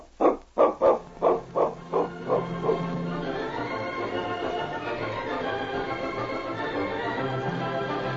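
A dog, King, barks in a quick run of about eight yaps that grow steadily fainter, then gives way to a sustained, droning tonal sound with no more barking.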